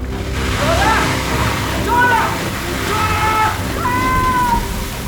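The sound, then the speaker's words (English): Steady rushing water from leaks in an underwater city runs down the walls and splashes continuously, a loud wash of noise throughout, with a few faint wavering tonal cries rising over it. “There's bound to be some puddles. Am I mad, or is it running down the walls?”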